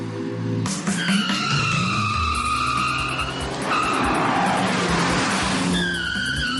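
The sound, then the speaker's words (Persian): A Mini Cooper hardtop with automatic transmission, set to sport mode for a track test, revs hard and climbs through gears, with tires squealing and skidding on the race track, loud throughout with no talking. “ولی ما برای تست روی پیست، مینی رو روی حالت اسپورت گذاشتیم.”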